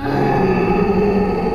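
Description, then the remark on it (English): A loud, deep gorilla grunt rumbles steadily for over a second, gravelly and sustained, as the gorilla runs across a barnyard, with no voices around it. “I turned the key, and I could see the gorilla running across the yard towards me.”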